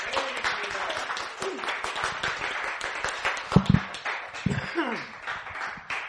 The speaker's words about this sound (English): Praise the Lord. Give the Lord a cheer.